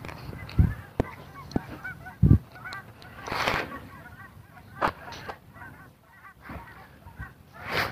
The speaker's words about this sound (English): There's some geese off in the distance.